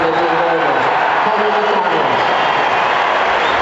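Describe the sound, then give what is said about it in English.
A big stadium crowd of Mayo supporters roars and cheers without letup, a dense wash of many voices filling the whole stretch at a steady, loud level, with no single speaker standing out. “The cheers you're hearing right now, have a listen.”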